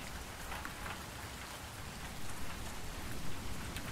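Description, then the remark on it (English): Heavy rain pours down steadily outside, a dense, continuous hiss of drops spattering on surfaces, with no voices and no breaks in the downpour. “Well, you're out by yourself outside of the Pizzaplex in the pouring rain, reeking of blood, so call me curious and a bit concerned.”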